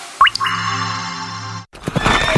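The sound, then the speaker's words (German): A horse neighs once, loud: a sharp rising squeal that settles into a long, shaky harmonic whinny, then cuts off into a brief burst of scuffling noise. “Diesen Sonntag in vollem Galopp zum Gmünder Pferdetag mit umfangreichem Schauprogramm.”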